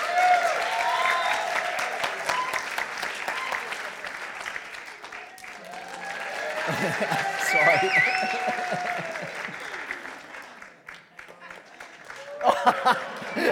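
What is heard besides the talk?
audience applause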